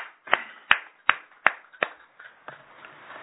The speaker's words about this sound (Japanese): 71歳を迎えられましたので、盛大な拍手でお祝いします。